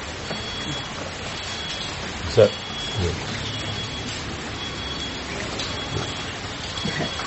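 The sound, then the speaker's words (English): Steady rain falls throughout, a constant hiss of drops with a faint rumble underneath and a single brief knock partway through. “For the rain.”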